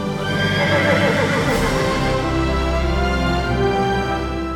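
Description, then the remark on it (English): A horse neighs loudly in one long, drawn-out whinny with a rich, buzzing tone that wavers at first, then settles into a steadier, sustained cry. No one speaks. The horse is Joey, in playwright Nick Stafford's stage adaptation. “In playwright Nick Stafford's stage adaptation, we don't know what the horse is thinking.”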